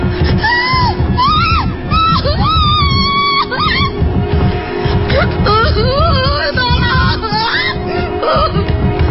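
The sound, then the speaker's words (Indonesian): Loud, terrified screaming and wailing inside a car whose door will not open rises and falls continuously, with several anguished cries overlapping over a steady low rumble for the whole stretch. “Saking takutnya, aku hanya bisa menjerit-jerit ketakutan.”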